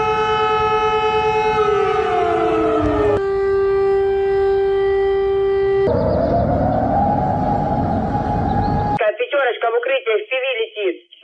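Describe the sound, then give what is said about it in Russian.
An air raid alert siren in Russia wails loudly with a rich harmonic tone, first sliding down, then holding steady, then rising again, before a voice starts speaking over a thin, tinny line. “Так звучит воздушная тревога в России.”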